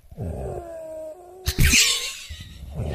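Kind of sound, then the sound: human body sound, snoring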